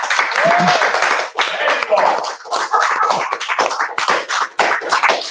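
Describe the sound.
An audience applauds steadily to welcome a guest, a book series editor, a dense wash of many hands clapping that stays loud throughout, with a few brief whoops or voices rising over the clapping.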